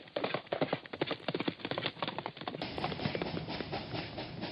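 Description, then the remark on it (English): Rapid horse hooves clip-clop in a steady galloping rhythm, fairly loud, as a ridden horse sets off, shifting midway into a denser, continuous rumble of hoofbeats. “Horse, off we go! We must save Nell!”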